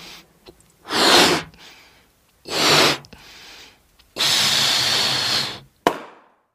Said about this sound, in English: Uh-oh! Do you know what just happened to my balloon? Yeah, it popped.